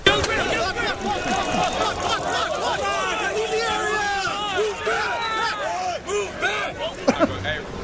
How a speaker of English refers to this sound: All right, take a look at this massive crowd on the Balboa Peninsula. Saturday. Oh, it's the Balboa Peninsula.